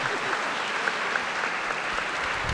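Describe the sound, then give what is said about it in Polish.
An audience applauds steadily, many hands clapping in a dense, even wash of sound that holds at a constant moderate loudness throughout, with no voices rising above it. “Wielkie brawa.”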